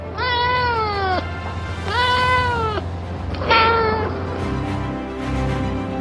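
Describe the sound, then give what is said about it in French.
A small French female cat with a black-and-white striped coat meows three times, two long drawn-out cries followed by a shorter, sharper one, loud and clear over a steady low background hum. “À son bord, il y a un félin astronaute, une petite chatte française au pelage rayé noir et blanc.”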